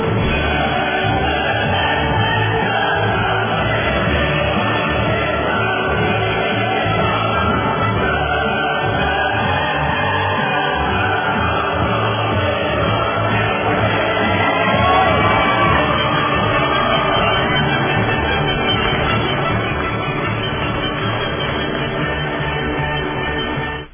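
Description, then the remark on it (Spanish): A large crowd claps and cheers steadily for the whole stretch, a dense, loud wash of applause with scattered shouts rising out of it, swelling slightly near the middle. “Y por eso las aplaudimos, porque a veces el periodismo nuestro es un periodismo solo de carroña.”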